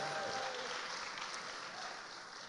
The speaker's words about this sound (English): How about a big round of applause for our worship team leading us to God today?